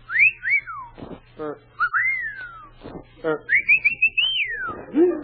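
person whistling at someone

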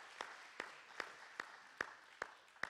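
audience applauding

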